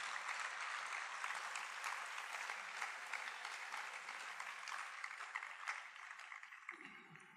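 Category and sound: crowd, applause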